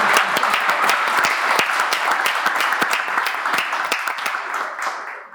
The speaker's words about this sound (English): Eastside High School One Act Play, 1A State Champions for 10 consecutive years. Be it unanimously resolved by the... Yep, that deserves an applause already.